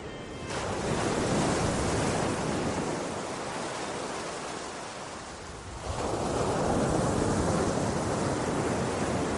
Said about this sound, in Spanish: Y cuando se detenía, también se oía el mar.